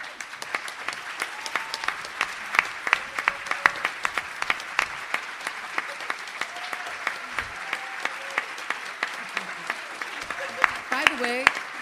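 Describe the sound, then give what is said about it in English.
Sustained audience applause for about twelve seconds as someone comes up to receive a gift, dense steady clapping from many hands with a few voices and a faint whoop rising near the end. “I'd like for you to come to get this gift so we can all give you a round of applause.”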